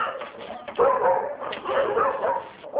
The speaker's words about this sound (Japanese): 犬小屋からなかなか出てこようとはしないこの犬は、以前人間から強い虐待を受け、今も怯えて生活しています。